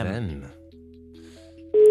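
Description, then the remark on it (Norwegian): A voice speaks briefly, then a quick sequence of steady, two-pitched telephone dialing tones plays as a call is dialed to reach a celebrity, changing pitch a few times, ending in a louder, sustained tone. “Og så ringer vi opp hver eneste uke og håper at en ny kjendis har fått den.”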